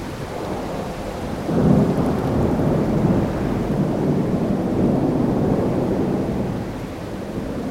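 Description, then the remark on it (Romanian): A heavy thunderstorm at sea, growing ever stronger: steady, dense rain with deep, rolling thunder rumbling continuously underneath, swelling loudest near the start and then grumbling on. No voices. “Au încercat din răzputeri să ajungă la țărm, dar furtuna devenea din ce în ce mai puternică.”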